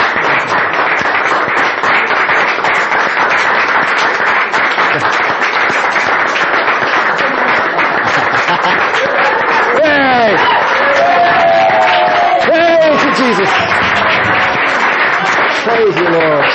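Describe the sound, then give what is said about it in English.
An audience gives God a clap, breaking into sustained, loud applause, with cheers and shouted voices rising over the dense clapping. “Let's give God a clap.”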